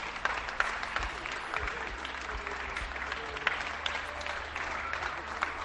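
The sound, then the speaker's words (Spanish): Steady, dense clapping from many people across a neighbourhood, applauding from balconies, echoing, with a few individual claps standing out and faint voices mixed in. “Depende, claro, del sonido que tengamos y cómo lo captemos, y si tenemos un aplauso más cercano tapa el aplauso genérico de todo el vecindario.”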